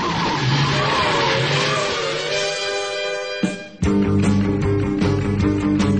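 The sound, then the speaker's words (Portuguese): The Batmobile car tears away with loud, sustained tire squeals and a roaring engine, a brief dip in the middle before the screeching and engine noise surge back, intense with no talking. “To the Batmobile, let's go! Atomic batteries to power. Turbines to speed.”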